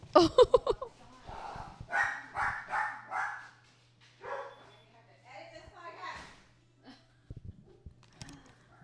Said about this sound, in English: oh my God, these dogs